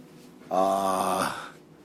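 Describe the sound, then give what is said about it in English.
A vehicle's diesel engine is started and fires up with a sudden loud, rough drone, its buzzing tone holding for under a second before settling back into a low, steady rumble. “I had to fire up the diesel.”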